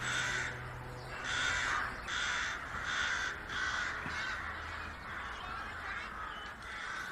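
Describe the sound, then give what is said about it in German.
A large flock of crows in the sky caws repeatedly in overlapping harsh bursts, a steady rhythm of loud calls roughly every half second, with more birds calling faintly in the background and no one speaking. “denke ich wieder über den grossen Krähenschwarm am Himmel nach.”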